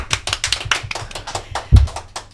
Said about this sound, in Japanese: これありがたいですね、スタッフ拍手。